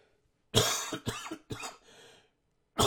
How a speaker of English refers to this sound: Nah, coughing up poodles. Oodles of poodles. That's what I'm coughing up.